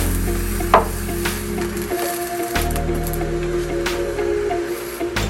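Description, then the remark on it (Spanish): Bell peppers, one of them red, sizzle and crackle steadily as they char over heat until fully blackened, giving off a little liquid, with occasional sharp pops and a low hum beneath, and no one speaking. “Voy a colocar mi otro chile morrón a un lado de este rojo. Van a botar un poquito de líquido, traten de que se quemen por completo.”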